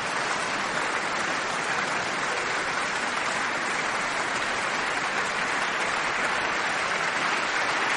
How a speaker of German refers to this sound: Sie applaudiert selbst jetzt dem Orchester.